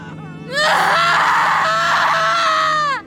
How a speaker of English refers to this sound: I held my mother as she screamed, and I screamed with her.